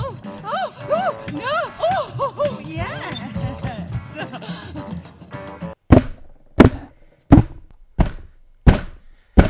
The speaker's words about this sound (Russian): Ставка уже кончилась, это звук моей головы, бьющийся о стол.